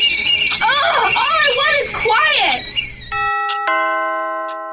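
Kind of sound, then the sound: household object, doorbell ringing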